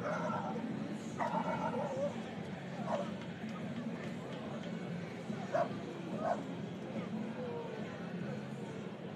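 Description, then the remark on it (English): A dog barks a handful of times at irregular intervals at a ballpark, short sharp yaps rising over the steady murmur of a large crowd in an open stadium, clearly audible. “Apparently there's a dog at the ballpark today.”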